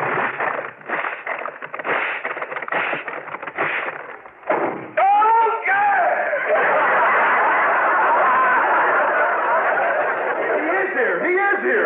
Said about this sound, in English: Here's a paper bag on the floor. I'll blow it up and explode it near the ceiling. Watch.